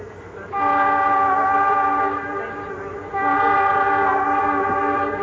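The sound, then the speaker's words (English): A loud whistle from a little train in a park blows in two long, sustained blasts, the first easing slightly before the second swells back up, over a low rumble of the moving train. “Oh, all right, before the whistle interrupted me.”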